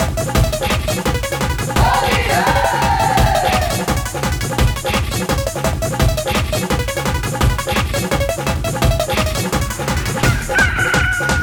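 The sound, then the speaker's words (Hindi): A rooster-like crow rings out early on, layered over loud, driving folk-style music with a steady thumping beat; a second brief crowing cry surfaces near the end, partly buried in the mix. “भंगिया खैले बा मुर्गा बा कुकु कुकु, भंगिया खैले बा मुर्गा बा कुकु कुकु, भंगिया खैले बा मुर्गा बा कुकु कुकु।”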